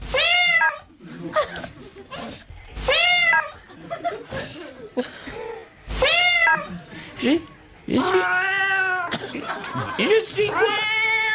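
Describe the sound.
A person imitates a cat, producing a series of drawn-out, whiny meows in bursts, loud, with short pauses between and a longer wavering meow near the end.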